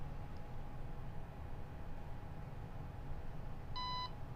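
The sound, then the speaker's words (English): A single short electronic beep from a programmable robotics brick running a program sounds near the end, a clean high-pitched tone, against a steady low background hum with no talking. “We hear our beep.”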